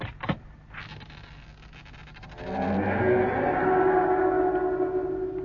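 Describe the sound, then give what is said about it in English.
A short click, then an old door in need of repair, in a dilapidated building, groans open in a long, drawn-out creak that swells louder and settles into a steady, reedy whine, with no voices. “I just felt a kind of foreboding as that door opened, that's all.”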